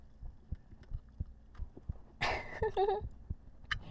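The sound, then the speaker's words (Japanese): A can of melon sour (fizzy drink) is cracked open one-handed with a sudden bright hiss, followed by brief squeaky tones, while soft, regular low thumps of handling continue throughout. “炭酸の音。あ、開きました。”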